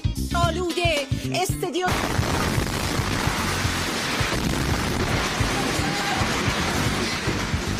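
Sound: explosions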